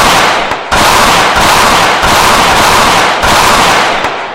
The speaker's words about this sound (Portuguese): Uma chuva de bala!